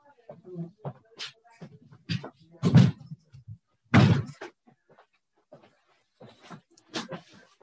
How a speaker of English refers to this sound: Let me see if I can get rid of the background noise by closing the door.